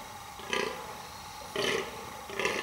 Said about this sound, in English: Fallow deer.